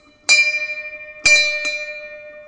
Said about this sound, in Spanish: Tenemos que sonar la campana.